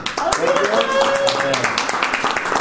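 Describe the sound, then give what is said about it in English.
A burst of clapping from a small crowd in the gallery, dense and steady for a few seconds, with a rising whistle or whoop and some voices mixed in. “Round of applause from the gallery.”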